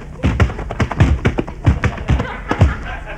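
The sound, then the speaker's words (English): Heavy, rhythmic thuds of kids running and colliding in a football tackle, a quick series of solid impacts with a faint murmur of voices behind them. “You sure tackled him hard.”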